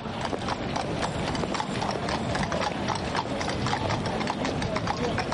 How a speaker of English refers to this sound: Horse and carriage tours take tourists through the picturesque cobbled lanes.